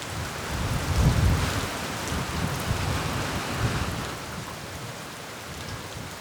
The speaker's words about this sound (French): une pluie qui était vraiment différente que celle de Paris. C'était quelque chose avec des orages mais hyper intenses et qui moi me manque énormément.